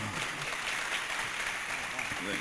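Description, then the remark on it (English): Steady audience applause, a dense crackle of many hands clapping at an even, fairly loud level throughout, with a voice briefly speaking over it near the end. “Just a round of applause for that, ladies and gentlemen.”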